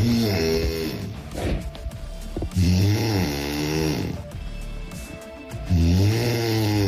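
A woman snores loudly and close by, with three long, rasping breaths separated by short pauses, each snore rising and falling in a rough, droning rattle. No one speaks.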